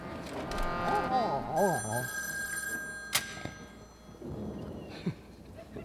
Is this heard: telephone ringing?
yes